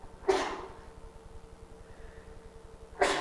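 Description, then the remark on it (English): Two sharp, breathy sneezes in a church, about three seconds apart, each a sudden loud burst that quickly fades, with a quiet, steady background between them and no talking. “Bless you.”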